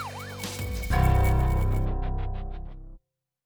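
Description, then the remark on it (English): An ambulance siren wails up and down briefly, then gives way to a loud, distorted, heavily processed electronic burst with echoing tones that cuts off abruptly. Nobody speaks. “When you see the flashing blue light, or when you hear the siren, you know there are lives in danger.”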